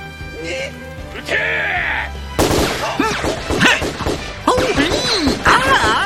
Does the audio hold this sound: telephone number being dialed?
no